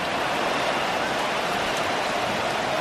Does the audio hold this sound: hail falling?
yes